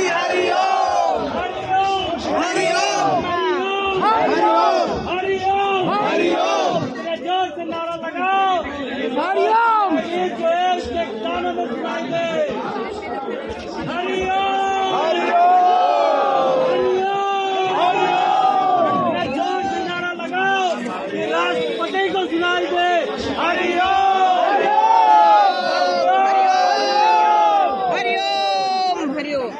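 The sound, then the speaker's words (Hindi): A large crowd at Jantar Mantar chants protest slogans demanding the release of Asaram Bapu, a dense, continuous roar of many overlapping voices, loud and steady for the full half minute, with shouted phrases rising and falling. “श्रोताओं नमस्कार आदाब, पहले सुनते हैं क्या नारे चल रहे हैं।”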